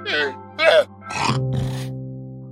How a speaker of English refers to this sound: Aside from the chickens, there are also pigs, horses, cows, llamas. See? Here's a llama.